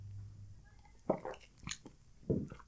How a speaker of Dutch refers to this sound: Even een slokje water tussendoor.